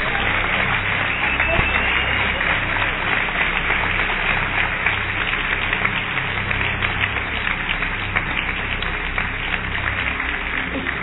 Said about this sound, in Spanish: Le soltás una ofrenda de palmas.